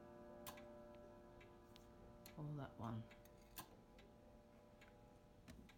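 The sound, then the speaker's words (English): A clock ticks steadily, its soft clicks evenly spaced, with a brief murmur of a voice partway through. “Are you playing silly buggers with me, clock?”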